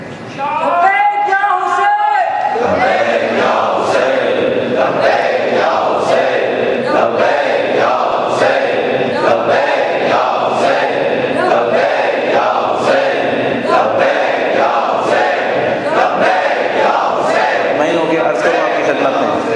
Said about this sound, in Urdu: یہ جو نعرے آپ لگائیں گے, یہ جو نعرے آپ لگا رہے ہیں, جس انداز میں بھی آپ لگا رہے ہیں, ایک ایک چیز دشمن نوٹ کرتا ہے, ایک ایک چیز.